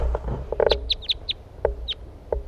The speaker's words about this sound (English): Wild birds.